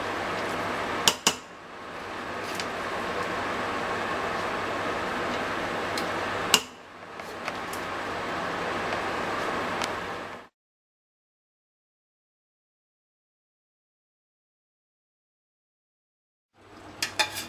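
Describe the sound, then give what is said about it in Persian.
All the rice pours into a pot in a steady, grainy rush for about ten seconds, with a few sharp clinks of a utensil against the pot as the remaining ingredients are added. After a pause, more scraping clinks of stirring follow, mixing until the rice turns red, clear, with no talking. “خب من همه برنج رو ریختم داخل قابلمه و بقیه موادم هم بهش اضافه میکنم.”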